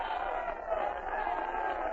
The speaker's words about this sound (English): All set to start, folks. The stands are yelling themselves hoarse.